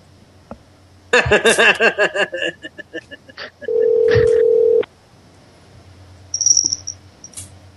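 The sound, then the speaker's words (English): A phone line's disconnect tone after the other caller hangs up: a flat, steady electronic hum lasting about a second, following a burst of choppy, garbled line noise, then a brief high chirp before silence. “She's gone. Oh, man. I wonder how did we get this connected? Did you pay your phone bill?”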